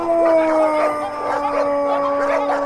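A chorus of dogs howls in overlapping, wavering wails, with a few short yelps mixed in, steady throughout.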